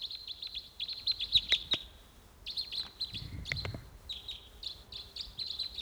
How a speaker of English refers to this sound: Now no sign of it. Just the decoys calling there.